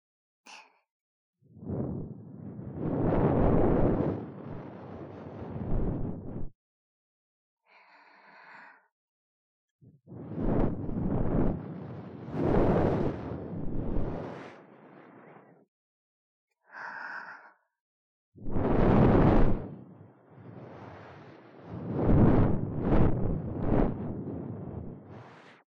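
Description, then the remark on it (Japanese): An idol blows long, breathy breaths into the ear to clean it after wiping it, in four or five soft, windy whooshes, each lasting several seconds, with brief quiet inhales in the pauses between them. No one speaks. “アイドルの吐息でお耳の中をきれいにしちゃいましょうね。”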